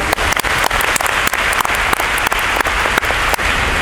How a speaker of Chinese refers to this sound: 希望各位的双手掌声欢迎。